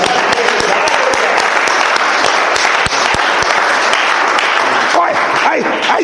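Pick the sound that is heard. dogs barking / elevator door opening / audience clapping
audience clapping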